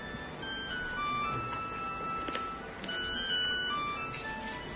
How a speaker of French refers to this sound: Someone's telephone, please turn it off. Si vous pouvez éteindre le téléphone qui est en train de...